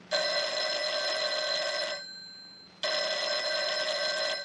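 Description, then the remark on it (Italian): A telephone bell rings in two long, loud bursts separated by a short pause, a bright metallic trill with no one speaking. “Chiama Gingrich al telefono.”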